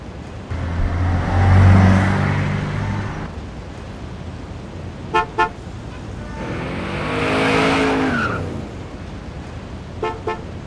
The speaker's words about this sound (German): Wer zuerst zog, der hat verloren. So lautet die wichtigste Regel im französischen Verkehr. Und nur nach diesem Motto kann es einem gelingen, sei es als Fußgänger, sei es als motorisiert, sich durch Staus von Paris vorwärts zu bewegen.